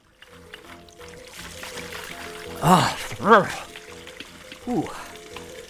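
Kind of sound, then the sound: household object, tap water running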